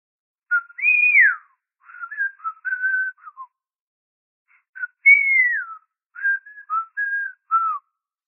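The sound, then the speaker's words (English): People, called the Swedes, whistle a short tune on the other side of a door, played twice with a pause between: each phrase opens with a long sliding note, then a few quick shorter notes. Clear and moderately loud, with no talking. “On the other side of my door, the Swedes start whistling.”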